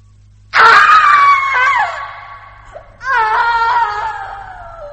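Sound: woman screaming in anguish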